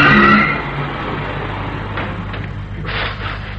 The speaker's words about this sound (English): Who can resist the attraction of Market Day in Biggleswick? This looks like the train coming now.